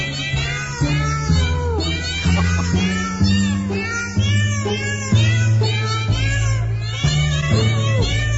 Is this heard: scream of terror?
no